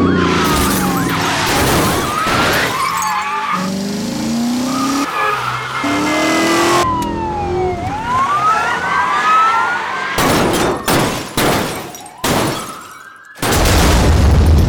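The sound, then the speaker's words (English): A loud car chase sound effect: engines roar, tires squeal and skid, and rising and falling siren wails sweep past, ending in a burst of sharp crashes and impacts. “Buckle up and feel the need for speed with Car Chase Elements.”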